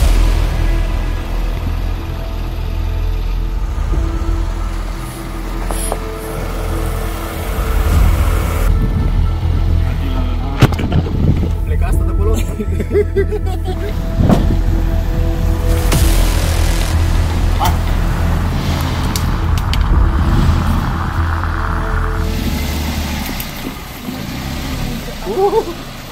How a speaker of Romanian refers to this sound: Sau, cum n-am mai avut un camion la dispoziție, să ne urcăm cât mai mulți hândrălăi într-o mașină și să trecem peste el.